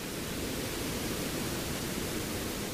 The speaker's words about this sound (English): This is called pink noise. It may sound random, but it has very specific properties, power and density and frequency. Its profile is similar to falling rain or wind in the trees.